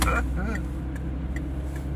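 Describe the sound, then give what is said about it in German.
A car overtakes on the left, its steady low engine and tyre rumble holding loud and even for the full two seconds, with a brief higher whine near the start. “Wenn man die Spur von rechts nach links wechselt, könnte nämlich sein, dass man links überholt wird.”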